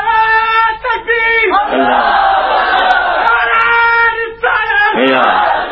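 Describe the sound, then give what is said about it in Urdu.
A large crowd shouts a religious slogan in unison, loud rhythmic chanting in bursts with short breaks between, many voices blending into a sustained roar with no single speaker. “یا رسول اللہ, آپ کے بندے ڈھیلے ہیں, آپ کا نعرہ بڑا جوش, ان میں روٹیاں نہیں کھا کے آئے ہوئے, نعرہ ہی نہیں لگاتے.”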